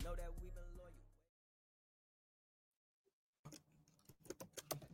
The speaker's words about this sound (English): As my brother types, like he doesn't know that we can hear his Tim typing.